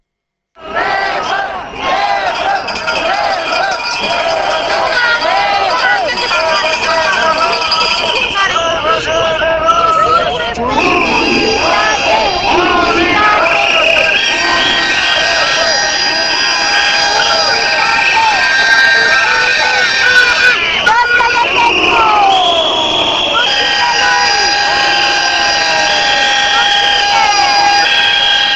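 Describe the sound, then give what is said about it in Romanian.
More than 1,000 Romanian postal workers from across the country protest in the street outside the Ministries of Labour, Communications and Public Finance, shouting and chanting together in a loud, sustained roar, with whistles and horns piercing through the din and voices rising and falling throughout. “Au strigat astăzi cei peste 1000 de poștași veniți din toată țara în fața Ministerelor Muncii, Comunicațiilor și Finanțelor Publice.”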